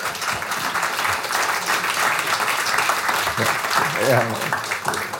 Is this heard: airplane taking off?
no